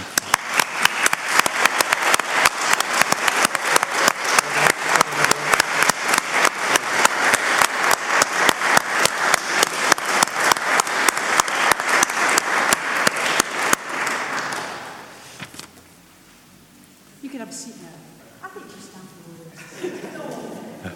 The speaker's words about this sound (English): Yeah, come on, round of applause, come on. Yeah.